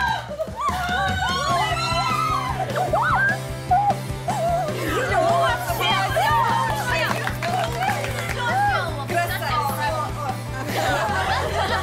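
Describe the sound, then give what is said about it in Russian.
A dense crowd of a performer's supporters shrieks and screams nonstop, high excited squeals overlapping with laughter and chatter, loud throughout. “Знаешь, по количеству визга твоя команда, конечно, перебила всех.”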